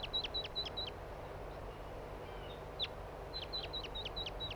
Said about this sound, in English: Here's one of the wild birds now in a tree.